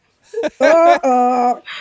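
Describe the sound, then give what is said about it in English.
A dog named Burns in the background gives a few loud, drawn-out whining cries, three tonal bursts in quick succession with a steady, fairly high pitch, and no talking over them. “Have you got Burns in the background? The dog, yeah, they were sent to the park, but I think they're back.”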